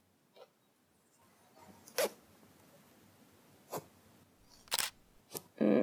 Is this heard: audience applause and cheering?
no